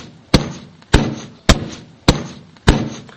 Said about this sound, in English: As I approach the top, a mighty booming resounds from the other side of the mountain, like ore being pounded. The sound gradually swells